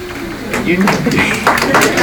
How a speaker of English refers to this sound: I didn't know anything yet, and I get applause.